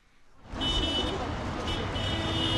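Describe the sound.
Steady, dense street noise swells in after a quiet start, with sustained car horns sounding over the roar of passing traffic and a murmur of voices. Cars decked with white ribbons and carnations honk to thousands of demonstrators forming a human chain on Moscow's Garden Ring Road on a Sunday in wet snow.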